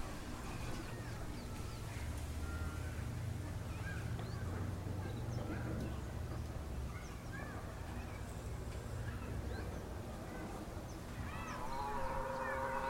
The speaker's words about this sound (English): The crow sound doesn't bother you anymore. It used to just, and you realize it doesn't bother you.